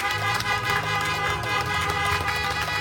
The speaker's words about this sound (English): Let's give the Lord a hand clap of praise. Honk your horns.